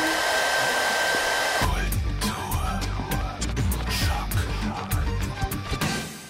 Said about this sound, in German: Föhnst du mal bitte? Ja, danke.